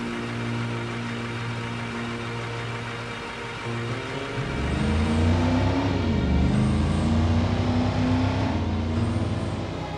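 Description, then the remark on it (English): A bus pulls up at a stop, its deep diesel engine rumbling steadily before growing louder and shifting pitch, with faint hissing bursts like air brakes releasing as it comes to a stop. “Oh look, here's our bus.”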